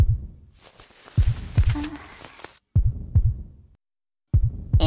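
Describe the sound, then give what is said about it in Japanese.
A muffled heartbeat thumps in low double beats, lub-dub pairs repeating steadily, with a soft rustling hiss early on and brief near-silent gaps between groups. “こんなにくっついてるから、ドキドキしてるの、聞こえちゃってるかな?お姉ちゃんと一緒だと、いつもドキドキしてるんだけどね。”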